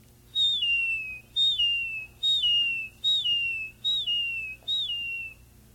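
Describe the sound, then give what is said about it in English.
A seagull in the salt water marshes of Florida cries six times in a steady series, each call a shrill, descending wail about a second apart, loud and clear over a faint low background hum. “In the salt water areas, the salt water marshes, you hear the crying of the seagull.”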